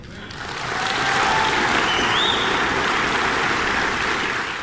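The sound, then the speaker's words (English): A crowd at a church breaks into sustained applause after a speech by a candidate for governor, dense clapping swelling in the first second and holding steady and loud throughout. “Well, there you go, and a lot of applause a number of times.”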